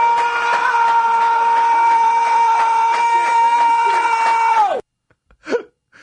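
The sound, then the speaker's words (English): A man lets out one long, loud, sustained scream at a steady pitch for several seconds, ending with a sharp downward drop, followed by silence and a faint brief vocal sound. “Is that the coach screaming?”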